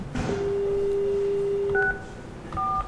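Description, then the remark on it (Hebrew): A steady electronic phone tone holds for over a second, then two short two-pitched keypad beeps sound a moment apart as someone places a phone call, clear, with no voices. “אתה לא יודע, זה כבר חצי שעה, אני מתקשר.”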